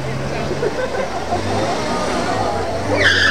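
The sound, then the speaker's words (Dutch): A GB service car's engine hums steadily as it pulls away through busy street noise, with indistinct voices in the background and a brief high-pitched squeal at the very end. “GB-auto rijdt ook weg.”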